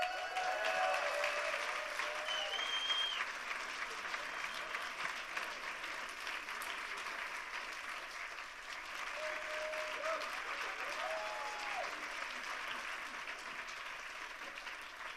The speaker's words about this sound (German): Ein großer Applaus.